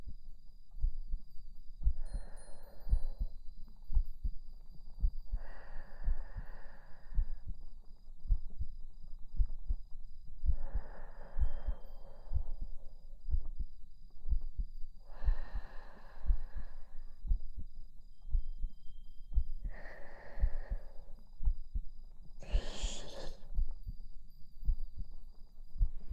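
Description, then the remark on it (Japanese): A muffled human heartbeat thumps steadily and continuously, with soft breathy whooshes rising over it every few seconds; no one speaks. “聞こえますか？私の心臓の音。”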